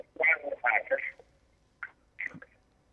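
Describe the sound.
Muffled, indistinct voices come through a narrow telephone line in a few short bursts with pauses between them, like a television playing somewhere behind the caller.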